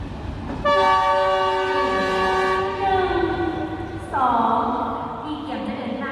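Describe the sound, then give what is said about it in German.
A high-speed train, the first in Laos, sounds a long, loud horn blast that sags in pitch, then a second shorter blast, echoing in the station hall in Vientiane, Laos, over faint murmur of people queuing for the platform. “Gerade ist der Zug eingefahren. Ein hochmoderner Schnellzug, der erste des Landes.”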